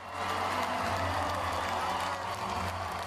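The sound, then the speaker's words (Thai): A large crowd fills a concert hall with a steady roar of cheering and applause, loud and sustained for the whole stretch, with no single voice standing out, at a high-school students' robotics competition in Washington with students from 160 countries. “เสียงเชียร์กึกก้องทั่วคอนเสิร์ตฮอลล์ในการแข่งขันหุ่นยนต์ของนักเรียนระดับมัธยม”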